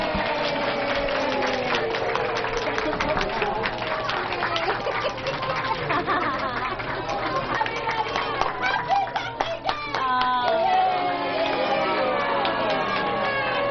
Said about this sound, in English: And now I want you to applaud all the characters. Yay.